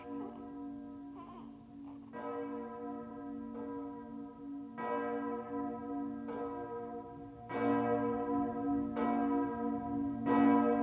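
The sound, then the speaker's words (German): Church bells ring in a steady, even sequence of strikes, each leaving a long, rich hum that overlaps the next. The peal grows louder and fuller toward the end, with no voices. “Wir wünschen dir, sollen es die Glocken sagen.”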